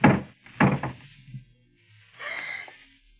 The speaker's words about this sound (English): Hurry to the garage. And lift the door.